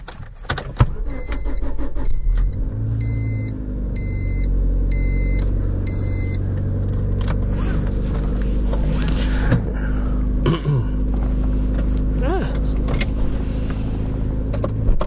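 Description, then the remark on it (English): A car engine rumbles steadily as the vehicle slowly backs out of a slightly sloping driveway, with a series of short, evenly spaced beeps in the first few seconds. “Okay, so I'm backing out from my driveway.”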